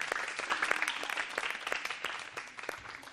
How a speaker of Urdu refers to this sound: تالیوں سے استقبال.